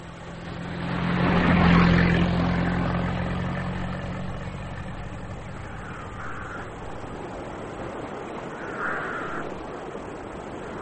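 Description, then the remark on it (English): A car engine rumbles past, its low hum swelling loudly and then fading away, followed by two crows cawing in the quieter stretch afterward. No one speaks. “Your father will drive us there in the car.”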